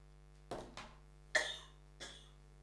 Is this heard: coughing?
yes